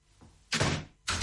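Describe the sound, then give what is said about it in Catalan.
A door slams shut with a loud, heavy bang, followed moments later by a second forceful thud. No voices. “Tanca la porta al coronavirus i queda't a casa.”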